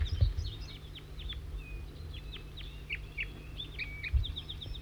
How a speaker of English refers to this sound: Another wild bird, there are two here. Pointing right at the wild birds, chittering. 4-3 Z-zering. These look like juveniles. And they're looking down at me. Chitter. Chitter by the wild bird.